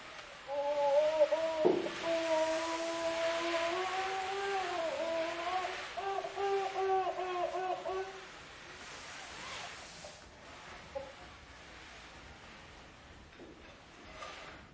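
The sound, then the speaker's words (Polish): Terns and gulls, drawn to leftovers from the fishing catch, squeal and screech in long, wavering overlapping calls for several seconds, then fade into a steady background of wind and outdoor noise with no talking. “Przyleciały rybitwy, mewy, łase na resztki z połowu.”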